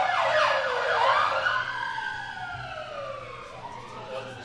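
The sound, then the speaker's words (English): An ambulance siren wails in sweeping rising and falling tones, loud at first, then dropping in pitch and fading slightly as it passes by outside. “The first one was a fire truck, but that one was for an ambulance.”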